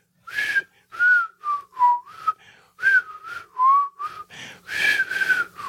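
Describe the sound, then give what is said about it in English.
A person whistles the theme song of a TV show alone, a bright, bouncy melody of short and held notes in a steady, jaunty rhythm. The tune is clear and slightly breathy, with no talking over it. “For some reason, I can't whistle right now. I could usually do that, but that was the theme song.”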